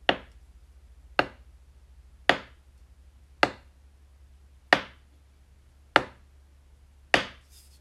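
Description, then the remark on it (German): A wooden spoon knocks against a wooden board seven times in a slow, even rhythm, each sharp hollow thud ringing briefly before the next, over a faint low hum. “Dazu nehme ich einen Kochlöffel und klopfe es gegen ein Holzbrett.”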